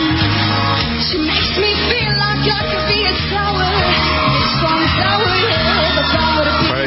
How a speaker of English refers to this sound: It's so annoying, though, listening to all those kids screaming.